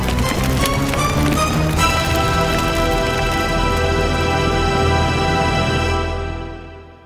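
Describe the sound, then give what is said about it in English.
Loud, dense crackling and roaring of a fast-spreading fire that has caught the curtains, a continuous rush of popping and hissing that holds steady for several seconds before fading out at the end. No one speaks. “You guys, the flames are getting higher.”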